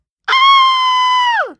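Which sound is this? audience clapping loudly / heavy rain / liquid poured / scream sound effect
scream sound effect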